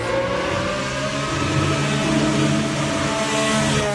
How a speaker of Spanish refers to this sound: Mientras tanto, en Cataluña así suena el Aston Martin de Fernando Alonso y esto dice el piloto español sobre esta nueva temporada.